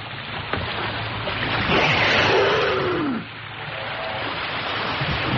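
A humpback whale surfaces and exhales in one loud, rushing blast of breath lasting about a second and a half, over a steady background of wind and water noise.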